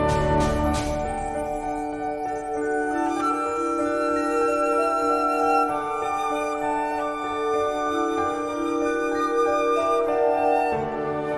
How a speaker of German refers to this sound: Man hört sehr verspielte Musik mit Mallets, mit Glockenspiel, mit Vibra, mit Klavier, sehr zart instrumentiert. Sehr transparent.